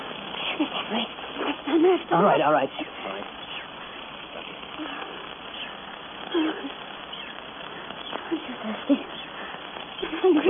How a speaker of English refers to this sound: Listen. Monkeys, those crazy monkeys, I could strangle them.